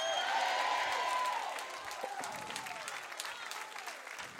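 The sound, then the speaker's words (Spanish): An audience gives a shout of victory, erupting in loud clapping and cheering shouts, the dense applause strongest at first, then easing slightly but continuing steadily through to the end. “Dale un grito de victoria.”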